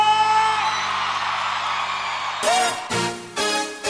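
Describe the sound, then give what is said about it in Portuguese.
A sustained, loud roar of voices shouting and whooping together, followed by a few shorter bursts of yelling and cheering near the end. “E quem gostou dá um grito!”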